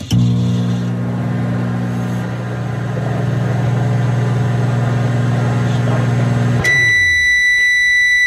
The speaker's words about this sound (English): There you go. You heard the whole run. That's a microwave.